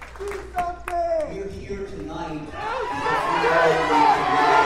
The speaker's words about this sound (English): The crowd spontaneously breaking out into a chant of "Do something."